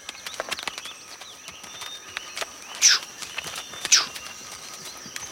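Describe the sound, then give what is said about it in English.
A horse carrying a rider walks up a mountain trail with an uneven run of light hoof clops and scuffs, with two heavier, louder strikes partway through and no voices. “The professor just gets right back on the horse.”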